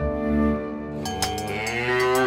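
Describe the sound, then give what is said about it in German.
A cow moos once in a long, drawn-out call, loud, its low droning tone shifting slightly in pitch as it holds for a couple of seconds with no other sounds. “Mit einer Kuh.”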